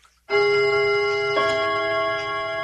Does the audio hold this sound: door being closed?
no